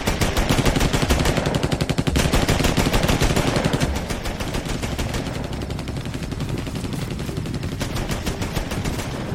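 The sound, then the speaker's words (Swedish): Loud, sustained machine gun fire with rapid, closely spaced shots rattling continuously for about nine seconds, easing slightly in volume partway through, with no voices; two machine guns hidden in bushes firing at a group of emus. “I buskarna framför dem finns två gömda kulsprutor riktade rakt mot fåglarna.”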